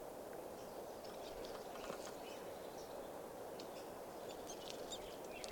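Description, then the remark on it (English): Short, high-pitched calls from a flock of about 10 birds foraging on cones about 30 feet up come in scattered bursts throughout, sitting faintly above a steady, loud background hiss and rumble. No one speaks. “Recording the birds that are foraging here are beginning to call.”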